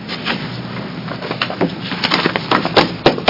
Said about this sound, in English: And give me a moment to shuffle some papers here.